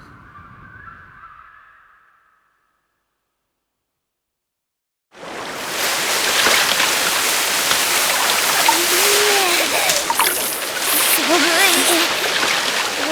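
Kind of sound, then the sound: nature, waterfall splashing water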